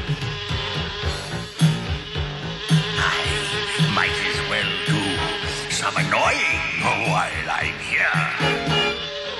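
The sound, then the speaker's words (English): A fly buzzes as it flies around Lion-O and Panthro, its droning whine swooping up and down in pitch as it circles and darts past, steady and fairly loud for several seconds. “I love the fact that he flies around Lion-O and Panthro and then gets flicked.”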